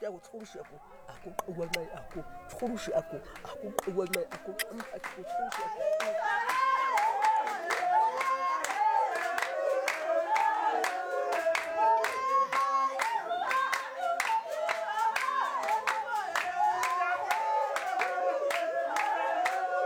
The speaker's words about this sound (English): When we perform the dance at home, we usually sit in the center, singing and clapping, and the men dance around us in circles and joining in the singing.